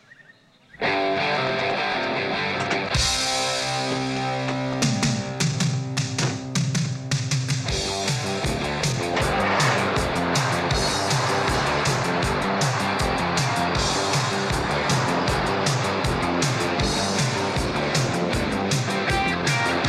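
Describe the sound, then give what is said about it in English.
A 10-speed beer truck's engine drones loudly and continuously as it is driven, its rough, distorted rumble mixed with rolling tire noise and clattering, starting abruptly and holding steady for the full length without any talking. “There's no way I'll crash this. This is a beer truck, eh?”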